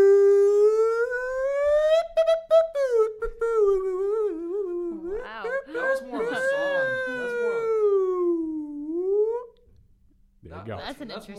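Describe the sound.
A loud, wailing siren effect with a strongly voice-like tone, swelling and falling in pitch for about nine seconds before cutting off, followed by brief warbling sounds.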